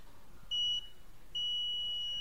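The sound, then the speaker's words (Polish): Two high, steady electronic beeps from a worn monitoring device signalling that the baby hatch window is open, its display showing 'window': a short tone, a pause, then a longer sustained tone, clear against a quiet background. “Chyba, że o, i on daje sygnał dźwiękowy, na wyświetlaczu się pojawia okno.”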